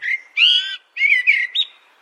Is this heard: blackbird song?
yes